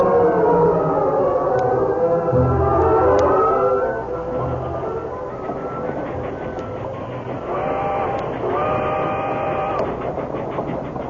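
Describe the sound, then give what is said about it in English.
A train travelling to Richland rolls along with a steady rumble and clattering, while a drawn-out whistle wails over it several times; no one speaks. “man sat alone in the train on their way to Richland.”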